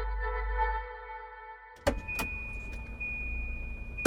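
car pulling up

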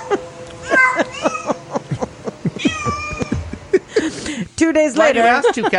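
hungry cat meowing

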